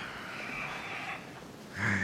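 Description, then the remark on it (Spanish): A person being revived with chest compressions makes ragged, breathy, fairly quiet gasps, ending in one sharper, louder intake of air. No one speaks. “Está respirando.”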